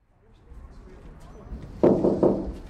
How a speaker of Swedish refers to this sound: Ja, här knackar jag på en stor port. Det är kopparporten. Den port som finns på fasaden till ett av de två riksdagshusen.